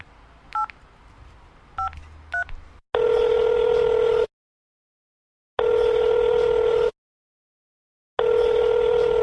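A few short, high keypad beeps of a phone being dialed, followed by three loud, steady ringing tones, each lasting over a second with pauses of silence between them.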